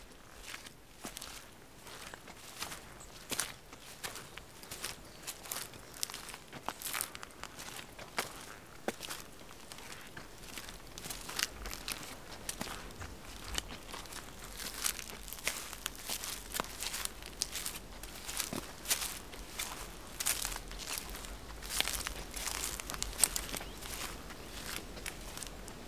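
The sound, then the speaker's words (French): Steady footsteps crunch along a rough countryside path while walking back down toward the valley, a brisk rhythm of crisp, scuffing steps over gravel and dry twigs, with a soft breeze in the thickets underneath and no talking. “Quelques ambiances de brise au fond des bosquets, des oiseaux épars. Et le chemin qui chemine.”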